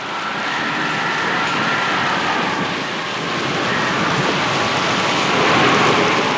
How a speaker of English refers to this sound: Offshore, waves continue to pound the coast. At the post office, rain whips through the air as Mr. L.C. Prowitt ties his boat to a flagpole.